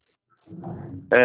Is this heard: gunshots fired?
no